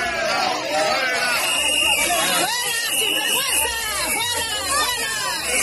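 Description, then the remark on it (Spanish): A large crowd in the city of Seville, Spain, jeers loudly and continuously at the head of the Spanish government, with booing and shrill whistles rising from many people at once, a dense wall of hostile noise throughout. “Vamos, que el jefe del Ejecutivo va cómodo, es decir, que sabe ya de antemano que no va a recibir preguntas incómodas ni sorpresas como estos abucheos o pitidos que en primera persona sufrió este sábado en la ciudad de Sevilla.”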